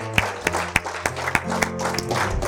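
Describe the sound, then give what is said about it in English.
An audience gives a hand clap of praise to the Lord, clapping together in a steady, fairly quick rhythm, each sharp clap ringing out clearly over sustained musical tones and a low murmur of voices underneath. “Give a hand clap of praise.”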